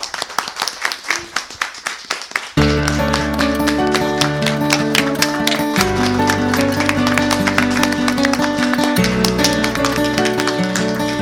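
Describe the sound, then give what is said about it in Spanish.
An audience, asked to applaud loudly, claps in a quick, steady rhythm for a couple of seconds, then loud, bass-heavy music with a sustained tonal backing and a pounding beat takes over. “Y les voy a pedir que con mucha fuerza, para que me crea nuestra audiencia, den un aplauso.”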